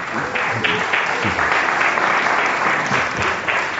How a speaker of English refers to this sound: Okay, round of applause for both of them.